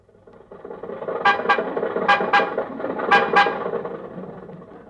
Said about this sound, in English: Well, anyway, after a long argument, we got in the car and started toward Hollywood.